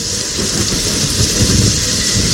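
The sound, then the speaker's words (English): A steady, heavy downpour hisses without pause, while deep rolling thunder rumbles low underneath. It's loud, with no voices. “It's not a normal storm. This is something you've never seen before,”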